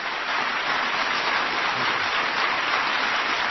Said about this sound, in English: President Bush is applauded as he begins his farewell address to the nation.